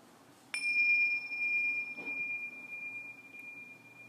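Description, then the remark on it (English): A single meditation bell is struck once during a guided meditation, its clear, pure tone ringing out and sustaining for several seconds as it slowly fades. No talking. “And at the bells, shifting the awareness from breath and body as a whole into the hearing.”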